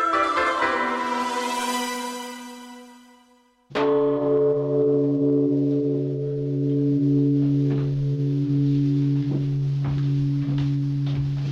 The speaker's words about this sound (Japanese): 江戸時代に時を告げていた和歌山市の岡山慈照堂の鐘の音です。